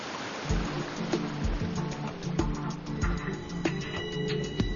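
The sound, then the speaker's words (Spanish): Water trickles steadily at a waterfall, seeming to come from nowhere and falling in small drops onto a cushioned carpet of moss, tapping in an irregular patter over a soft, continuous wash. “El agua, que parece emanar de la nada, corre y cae en pequeñas gotas sobre esta alfombra acolchonada de moho.”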